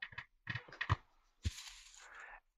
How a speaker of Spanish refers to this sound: Estoy tocando papelitos con los nombres. A ver a quién le ha tocado.